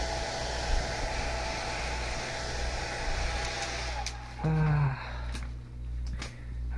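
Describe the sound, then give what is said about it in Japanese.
A hair dryer blows steadily, a loud, rushing whir with a low hum underneath, drying hair at the back, the right side, the front and the top of the head. Partway through, its tone shifts briefly, as if the airflow is redirected, and then it settles back. “左の方を考えさせて、後ろの髪の毛、右乾かして、で前、で頭の上の方乾かす。”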